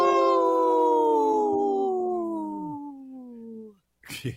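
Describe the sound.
A person imitates a wolf howl: one long, steady tonal wail that slowly glides downward in pitch and fades out over about four seconds, followed by a brief breathy noise.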